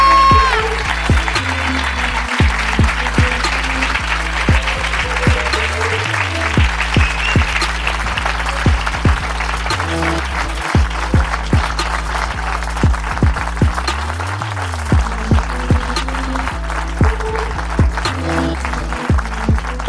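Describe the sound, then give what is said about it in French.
An audience applauds steadily, a dense wash of many hands clapping with sharp individual claps scattered throughout, while a low droning tone sweeps up and down underneath. “Je pense qu'on va finir là-dessus et t'applaudir pour ne pas être mort.”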